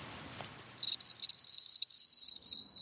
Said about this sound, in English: So you go outside at night and you listen for cricket song. You do have to know what they sound like. And of course, each species has its own song.